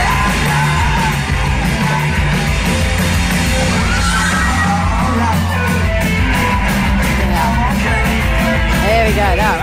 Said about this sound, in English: That scream, by the way, was someone who decided to stage dive and then the sea parted and it fell on his head. Straight through.